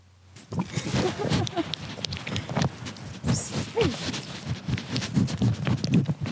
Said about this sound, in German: Oder doch ein bisschen ein Schäufeli von einem Stall, von einer Stallatmosphäre. Oder eben ein Schaf, das das Mikrofon aufessen will.